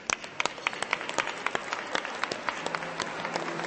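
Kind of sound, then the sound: crowd, crowd applause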